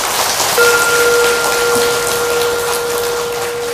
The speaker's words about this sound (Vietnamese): Do đó nếu quý vị cam kết đó là giúp con em mình trở thành Phật tử từ nhỏ, dẫn dắt mỗi tuần đi chùa ít nhất một ngày, nhiều hơn thì càng tốt, thì quý vị hãy cho một tràng vỗ tay thật lớn để cam kết.